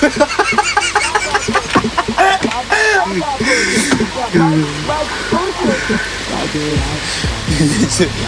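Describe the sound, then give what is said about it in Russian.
A rooster crows and clucks, a busy run of harsh, repeated calls overlapping one another over several seconds with a steady noisy background. “Петушара, блядь.”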